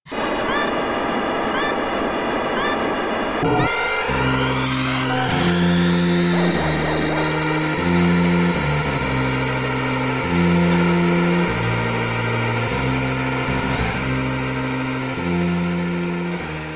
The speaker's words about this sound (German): Wir können uns hier mal eben anhören, wie so ein typischer Rennauftakt und dann so die ersten Momente eines Rennens klingen.